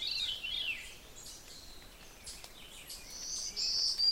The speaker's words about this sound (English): That zee-zoo, zee-zee-zoo, black-throated green warbler. Beautiful birds.